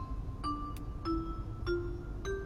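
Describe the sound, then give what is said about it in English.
Four bright xylophone notes struck at an even, steady pace, each ringing briefly before the next, with a faint extra tap between the first two and a low rumbling bed underneath. “We've got bells and we've got chimes. Xylophone, let me hear you one time.”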